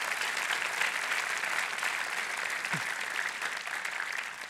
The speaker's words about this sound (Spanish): Dale con fuerte ese aplauso a Dios.